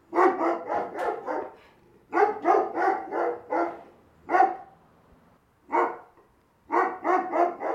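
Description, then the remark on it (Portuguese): Sled dogs bark in quick, loud clusters of several yaps each, broken by short pauses, with a couple of single barks in between. The barking is clear, with no talking. “Cece pavoneava como uma boa princesa e jogava bolas de neve nos cachorros.”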